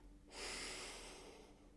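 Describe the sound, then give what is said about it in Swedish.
A single deep, airy inhalation drawn in through the nose, rising quickly and sustained for over a second, quiet with no talking, taken during a guided deep-breathing exercise. “Vi börjar med några djupa andetag. Andas in.”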